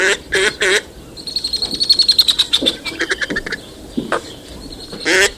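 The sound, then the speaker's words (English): Northern pintail ducks calling: three quick nasal calls, then a rapid run of pulsed, whistling notes, and a few more calls near the end. No voices. “What's going on with northern pintails?”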